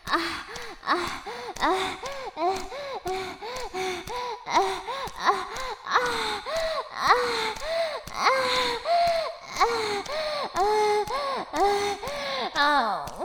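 panting

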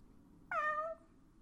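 cat meowing

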